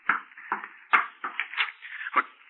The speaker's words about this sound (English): No one here. You heard the knocking on the door, but you see there's no one here.